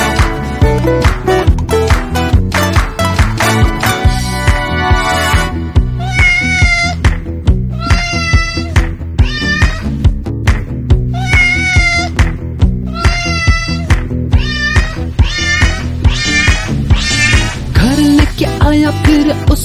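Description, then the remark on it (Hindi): Around a dozen short, high kitten meows ring out in quick rhythmic pairs and triplets, sitting loud and clear over a bouncy, steady music track. “म्याऊ म्याऊ करके बुलाया मुझे।”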